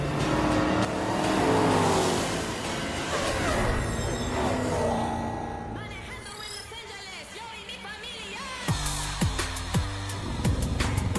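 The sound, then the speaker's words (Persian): A manual-transmission street racing car engine revs loudly on a road, its pitch sweeping up and down, then breaks into a string of sharp, rapid bursts near the end, with no voices. “قراره رکورد دامو توی این جاده بشکنم و تبدیل بشم به بزرگترین راننده مسابقه خیابونی بعدی که وجود داره.”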